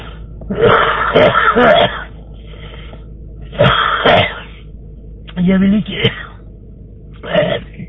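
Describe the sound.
A smoker's rough, raspy tobacco cough comes in several loud bursts, with short pauses between fits and a brief spoken phrase in the middle.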